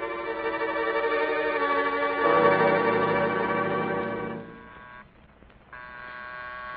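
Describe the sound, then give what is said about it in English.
Miss Maggie rings a bell in a steady, sustained burst for about four seconds; it falls quiet briefly, then starts ringing again. No voices are heard. “That's Miss Maggie ringing.”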